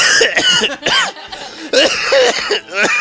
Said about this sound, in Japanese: ちょっとね、急に咳とかするかもしれないんで、皆さんね、まあ、コロナかもしれないし、インフルエンザかもしれないし、 いや、熱ないです。